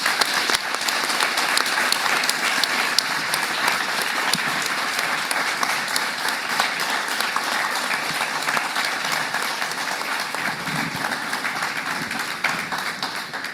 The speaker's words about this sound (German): Und das ist dein Applaus.